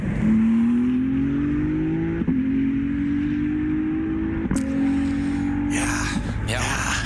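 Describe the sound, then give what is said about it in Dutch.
A loud Ferrari 296 GT3 race car (the GT3 version of the 296 GTB) with a 3-liter V6 engine climbs in pitch as it accelerates, shifting up through gears with three sharp breaks, ending in a burst of noisy rasp, filmed on Ferrari's test track. “Ja, dat is de GT3 variant van de 296 GTB. Dat is een auto die in de 24 uur races rijdt.”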